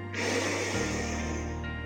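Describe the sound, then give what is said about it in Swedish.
A long, steady deep breath drawn in through the nose during a guided meditation, a soft airy hiss lasting about a second and a half over a low background hum, with no talking. “Andas in genom näsan.”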